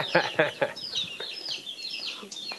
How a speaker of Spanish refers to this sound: Y ¿pollitos? Bastante fuerte con pollitos.